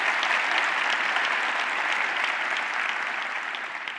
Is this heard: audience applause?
yes